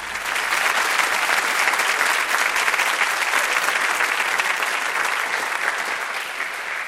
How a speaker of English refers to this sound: It's a bit disturbing to have people be forced to clap for me. And I'm sorry.